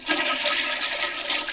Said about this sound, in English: it just overflows and goes on the floor. And you're still flushing it. Yeah, well, I'm trying to get it to go the rest of the way down.